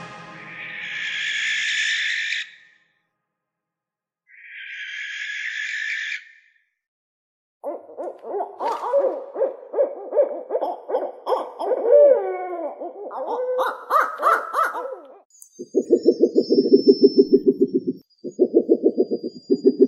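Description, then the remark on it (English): A sequence of calls from several different owl species: breathy, hissing screeches first, then a run of rapid tremulous hoots and chatters, ending with low, steady pulsing hoots in short bursts. No one speaks. “It's a selection of owls.”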